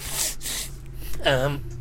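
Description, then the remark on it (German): Two quick, breathy sniffles from someone with a head cold, one right after the other, followed by a short voiced murmur, with a low steady hum underneath. “Aber Entschuldigung, ich bin immer noch ein bisschen erkältet, deswegen verzeiht die Huster und die Schniefer.”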